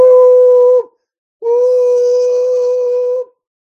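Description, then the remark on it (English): A distant locomotive whistle blows twice: a short steady blast, a brief pause, then a longer one, both holding a single mid-high pitch with no other sound around them. “A distant whistle announced the locomotive's prompt arrival.”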